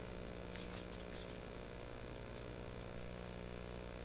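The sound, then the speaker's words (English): The engines of a slim propeller plane, the Windmaster, drone steadily on its final approach, a constant low harmonic hum wrapped in broad rushing noise, holding an even level throughout without any voices. “The motor grinder has started its engines for the final approach.”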